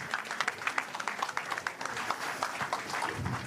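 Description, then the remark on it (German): An audience applauds steadily for a few seconds as two guests are called onto the stage at a tent festival, a dense wash of many hands clapping at once, sustained at an even moderate level without any voices standing out. “Frank Gosen und Annika Büsing, bitte auf die Bühne zu mir. Applaus.”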